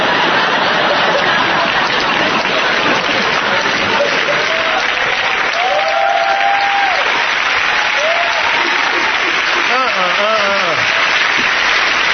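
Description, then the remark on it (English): A large audience claps steadily and loudly for the whole stretch, a dense continuous wash of applause with a few cheering voices rising above it near the end. “Even the white dude is clapping.”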